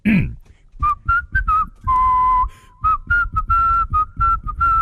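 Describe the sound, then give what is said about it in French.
A person whistles a song by a French female singer alone, a string of clear, pure tones with short bright notes and one long held note, moving in a lively, song-like rhythm. “Vous allez ce matin avoir notre petit rossignol préféré, notre siffleur qui va siffler ce matin une chanson d'une chanteuse française.”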